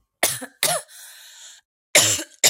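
Several harsh coughs in quick bursts from a person whose worsening cough leaves them unable to speak, with a wheezy, strained breath between the first pair and the last. No talking, just rough, raspy coughing.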